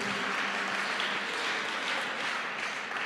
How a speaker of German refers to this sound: Und wir geben dem Herrn einen Applaus.